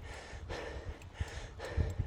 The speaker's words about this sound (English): If it turns into 5 minutes of puffing and panting, I apologise.